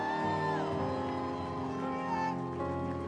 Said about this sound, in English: And everybody in agreement shouted, amen.